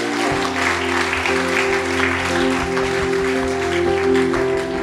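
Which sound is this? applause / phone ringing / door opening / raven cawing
applause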